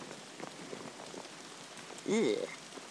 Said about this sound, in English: Oh my word, it really is raining now.